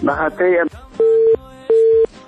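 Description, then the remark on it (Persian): A brief burst of voices gives way to a steady electronic busy tone, two evenly spaced beeps with a short silence between them, loud and clear over a phone line, as a caller's call to a broadcast is cut off. “متاسفانه که تماس برادر ما قطع شد، میخواستن شماری خدا اعلان بکنن اما تماسشان قطع شد.”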